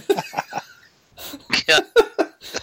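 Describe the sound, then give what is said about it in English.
A voice imitates a strange, exaggerated cough: a few quick hacking bursts, a brief pause, then a louder run of strained, voiced coughs, clear. “It's the wankiest cough I've ever heard.”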